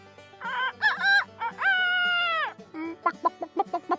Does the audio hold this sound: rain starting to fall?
no